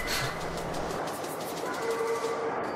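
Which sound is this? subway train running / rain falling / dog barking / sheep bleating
subway train running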